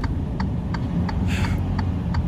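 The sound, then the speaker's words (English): Steady, evenly spaced ticking of a truck's emergency blinkers on an icy road, about three clicks per second, over a continuous low engine rumble; a brief hiss breaks in midway. “You can hear his emergency blinkers going.”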